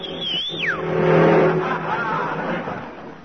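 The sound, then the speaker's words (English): An empty taxi cab speeds past at about 40 without stopping. Its engine roar swells to a peak and then fades. A brief high whistling tone slides sharply downward at the very start. “Wouldn't stop, and he had an empty cab. Huh. And he was going about 40.”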